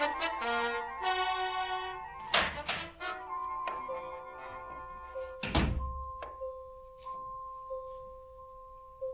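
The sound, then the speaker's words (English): A door being opened: a few heavy wooden thunks and knocks, the loudest two near the middle, followed by lighter clicks, over a steady tonal hum, with no one speaking. “The first thing I heard when I opened the door was a sound, a kind of funny one.”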